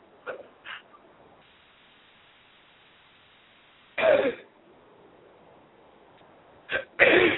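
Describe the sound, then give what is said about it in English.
A loud sneeze bursts out amid quiet, with a few shorter, softer sneeze-like bursts before it and two more near the end. No one speaks. “May God bless you.”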